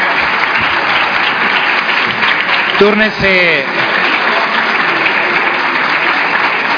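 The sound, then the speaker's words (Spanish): Steady applause in the senate chamber of the Congress after a senator's speech, dense and even for about seven seconds, with a voice briefly calling out partway through. “Muchas gracias por su atención y agradezco los aplausos desnutridos de este Congreso.”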